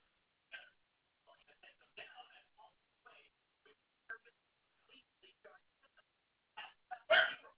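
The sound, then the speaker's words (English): A dog barks in short, scattered bursts to be let in, mostly faint, with one louder, sharper bark near the end amid other low, intermittent household sounds. “Will you let the dog in, honey?”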